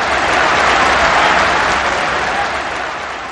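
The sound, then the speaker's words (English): A big stadium crowd roars in a loud, continuous wash of cheering and noise as a football match kicks off after the referee's whistle, holding steady for a few seconds before easing off slightly at the end. “The crowd roared.”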